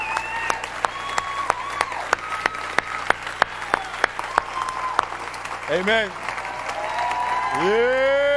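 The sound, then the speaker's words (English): An audience claps in a steady, rhythmic beat to encourage a man coming forward after praying to accept the Lord, sharp claps about twice a second, while voices talk and call out underneath; toward the end the clapping blends into louder crowd noise and sustained tones. “Let's all give him a hand and encourage him.”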